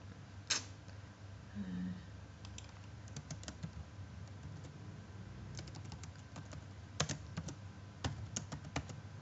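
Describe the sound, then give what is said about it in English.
Quiet, irregular clicking of keys on a Spanish-layout computer keyboard, with scattered taps and a few brief bursts of faster typing over a low background hum. “Spanish keyboard.”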